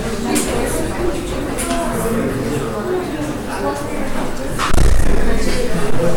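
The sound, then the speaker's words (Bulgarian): A door shuts with a single dull thud about two-thirds of the way through, cutting through steady background murmuring and shuffling in a room. “Може ли да затворите тази врата?”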